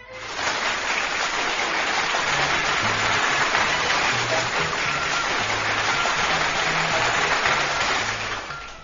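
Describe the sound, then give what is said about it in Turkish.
A crowd of children applauding enthusiastically in a classroom, a dense, steady patter of applause lasting several seconds, with a soft low musical tone running underneath. “Bütün çocuklar da bir alkış, bir alkış ki...”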